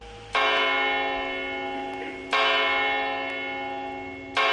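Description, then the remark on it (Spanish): A church bell of Almería Cathedral in Spain strikes the hour, three loud, resonant tolls spaced about two seconds apart, each ringing out and slowly fading into the next, with no voices present. “Bueno, estas campanas dando la hora nos introducen en la leyenda del tesoro oculto de la Catedral de Almería”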